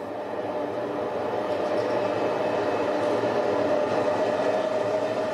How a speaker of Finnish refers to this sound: Tai vaikka Helsingin ohi menevä juna Raunistolla rautatiesillalla.